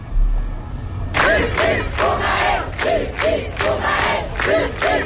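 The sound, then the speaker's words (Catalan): Hundreds of protesters gathered in Paris in the evening shout a rhythmic chant of justice for Nael in unison, repeated bursts of loud massed voices rising and falling in a steady cadence after a brief quiet start. “Manifestants que cridaven, com sentiu, justícia per Nael.”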